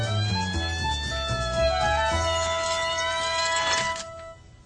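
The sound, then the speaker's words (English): Caillou's toy fire truck, being played with by Caillou, gives an electronic siren that wails loudly and steadily, its buzzy tone slowly gliding in pitch over a low rumble, then cutting off abruptly after about four seconds. “Caillou was having fun playing with his fire truck.”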